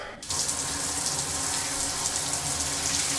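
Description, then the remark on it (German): Shower water at 38.4 degrees switches on after a brief pause and runs in a steady, full hiss with no voices, holding an even level to the end. “Dann gehe ich mal duschen.”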